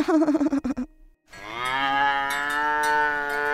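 A cow gives a short, wavering low, then after a brief pause lets out one long, loud, drawn-out moo that holds steady until the end. No one speaks.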